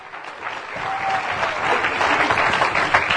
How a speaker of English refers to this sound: If you believe that, will you clap your hands in this place?